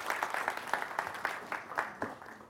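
A group gives a round of applause as a woman takes her seat, a steady patter of overlapping claps with bright, sharp hand slaps, fairly soft overall and continuing evenly throughout.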